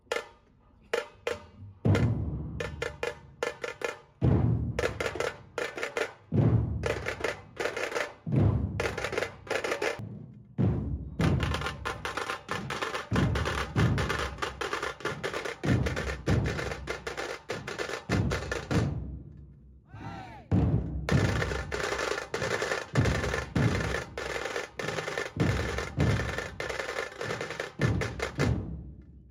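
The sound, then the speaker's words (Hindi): Loud Maharashtrian dhol tasha drumming by the Shivgarjana Dhol Pathak, opening the programme near the main stage of a multicultural festival in Australia: heavy booming dhol beats under rapid, crisp tasha rolls, driving on steadily with two short breaks before picking up again. No voices stand out. “इस फेस्टिवल में main stage के पास सबसे पहले ऑस्ट्रेलिया के पूर्वजों आदिवासी पारंपरिक मालिकों को आदरपूर्वक याद किया गया और एबोरिजिनल स्मोक के साथ शिवगर्जना ढोल पथक के महाराष्ट्रियन ढोल ताशा के साथ जोरों शोरों से कार्यक्रम की शुरुआत हुई।”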